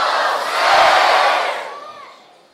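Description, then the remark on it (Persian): A crowd of children loudly chants "Ya Hussein" in unison, a single dense burst of many voices that swells to a peak and then fades away over a couple of seconds. “بچه ها بلند بگن یا حسین.”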